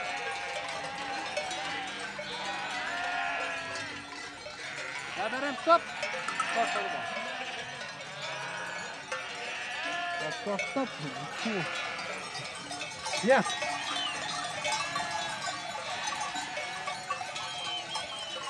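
Sheep bleat repeatedly amid a dense, continuous jangle of many bells as a flock moves; a few louder bleats stand out around the middle and later, with faint voices mixed in.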